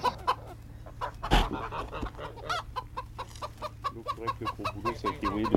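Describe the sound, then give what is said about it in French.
Several chickens cluck steadily nearby in a busy, overlapping chatter, with one sharp louder burst partway through, all over a low background hum. “Et ici alors, on a des paons, des poules.”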